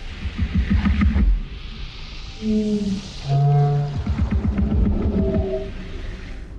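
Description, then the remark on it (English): An alien creature language from the sci-fi film Arrival, made by sound designers David Whitehead and Michelle Child from recordings of local New Zealand birds lowered in pitch, with other animals and instruments like bagpipes and didgeridoos added: moaning, sliding tonal hoots and warbles, some held and wavering, over a low rumbling drone, with no one talking. “To create the language of the aliens, New Zealand-based sound designers David Whitehead and Michelle Child recorded local birds and lowered their pitch, then added some other animals and instruments like bagpipes and didgeridoos.”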